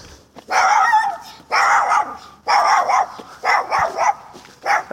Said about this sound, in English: It's all right. A little dog. It's always the little dogs that make the most noise, isn't it? Have you noticed? It's always the little dogs. I think they're having to tell the world that they are there so we don't overlook them.